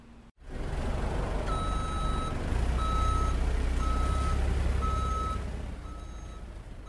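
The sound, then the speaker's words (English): A delivery truck carrying a large, shiny steel tank reverses at the Trim Tab Brewing Company in Birmingham, Alabama, its backup alarm beeping steadily, five evenly spaced tones, over a loud rumbling idling diesel engine, with no voices. “A large, shiny steel tank sits inside the truck. Outside, two forklifts will be needed to move it.”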